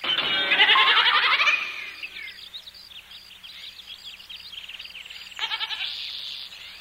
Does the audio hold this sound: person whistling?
no